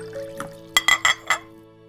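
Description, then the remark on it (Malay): Water is poured into a glass, heard as four quick splashing clinks within about half a second over a faint steady hum, with no talking. “Kemudian memberikan segelas air putih dan kapsul berwarna merah dan putih.”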